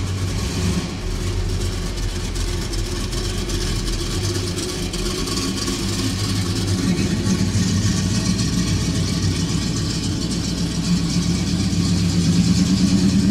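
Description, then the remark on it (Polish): A big American car engine rumbles steadily, its deep low idle holding firm and swelling slightly louder toward the end, with no voices present. “No tu downsizing to całkowicie tego auta nie dotyczy.”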